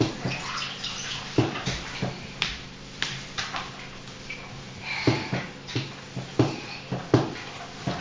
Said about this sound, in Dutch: Oh, je bent een pop in het bad aan het doen? Ja. Lekker, hè?